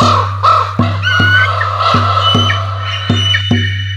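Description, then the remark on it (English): A raven flying with an eagle above a village and city, spiralling upward into rainy, misty clouds, gives a run of harsh, repeated croaking calls at an uneven pace over a steady low hum, fairly loud, with no one speaking. “Raven and Eagle are flying once more, up above the village, up above the city.”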